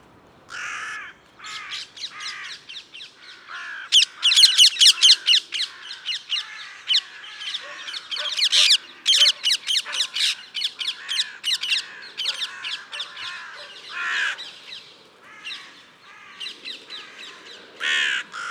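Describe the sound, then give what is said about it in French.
Harsh, raspy calls of a carrion crow ring out in rapid repeated bursts, loud, with brief pauses between volleys and no talking. “Ah, il y a même une corneille qui était venue leur rendre visite.”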